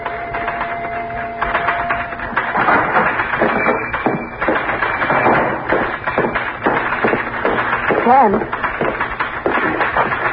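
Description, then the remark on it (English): Rapid, steady clacking of typewriter keys fills the scene, fairly loud, a continuous run of sharp taps with a voice briefly coming through underneath, as someone types a story about what happened the previous night. “I'm beginning to feel jealous of that typewriter.”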